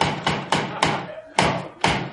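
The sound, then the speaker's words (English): Knocking on a door: about six sharp, solid raps in an uneven rhythm, four in quick succession, then a short pause before two more, each ringing briefly before fading. “I thought I'd knock.”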